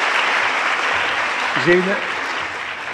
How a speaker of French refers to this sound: Oui, on va vous applaudir d'abord. Merci. Merci, merci.